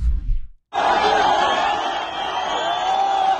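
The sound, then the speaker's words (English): A loud, sustained roar of Gazan crowds cheering and shouting during the release of Israeli hostages, many voices blending together without pause, preceded by a brief low rumble and a split-second gap. “Instead, the ICRC, the wonderful humanitarian organization, has become a shuttle service for Israeli hostages, helping Hamas release the hostages as Gazan crowds cheer in bloodthirsty fashion. There was more of that last night.”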